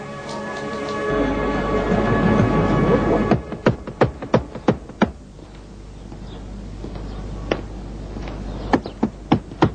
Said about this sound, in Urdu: کھٹکھٹاؤں دروازہ.